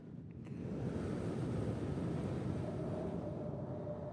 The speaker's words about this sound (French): Les vagues qui frappent contre le phare.